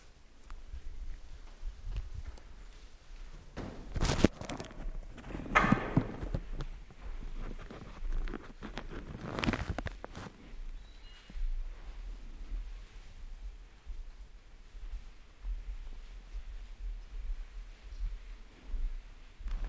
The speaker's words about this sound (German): Dann geh ein paar Schritte.